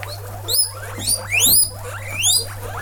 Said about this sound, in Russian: Вот таким радостным писком посетителей встречает орава морских свинок. Их тут народилось 45 штук.